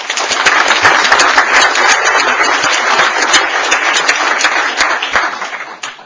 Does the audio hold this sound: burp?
no